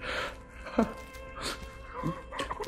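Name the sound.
girl crying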